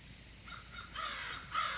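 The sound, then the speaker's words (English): Crows caw in a few harsh, rasping calls that grow louder toward the end, heard alone against a faint outdoor background with no one speaking. “A vow to guard our fields in autumn crown and murder mocking crows on brawny down.”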